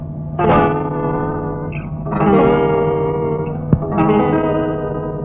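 A short instrumental intro to a Hamlet stage production, a musical setting of Pasternak's poem: swelling, sustained chords in a distorted, heavily effected tone with reverb, rising in three broad phrases with a brief click between them. No voices.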